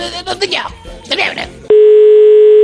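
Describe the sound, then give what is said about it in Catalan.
A person talks briefly, then a loud, steady telephone dial tone cuts in and hums continuously without a break until the end, as a call is placed to the Frestender bank. “Posa'm el telèfon que vull trucar aquesta gent del banc aquest de Frestender.”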